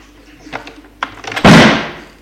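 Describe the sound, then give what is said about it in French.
An apartment door slams shut with a loud, heavy bang, preceded by a few quieter clicks and rattles of the handle, then a short fading resonance. “Mais trop tard, la porte de l'appartement a claqué.”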